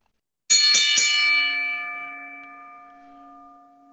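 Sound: bell ringing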